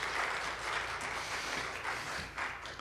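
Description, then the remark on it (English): A church audience breaks into steady applause for its music team during the Christmas season, a dense crowd of hands clapping at an even loudness throughout, with no voices rising above it. “Yeah, it is worthy of applause.”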